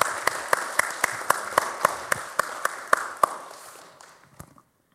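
applause

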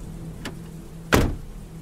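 car door opening

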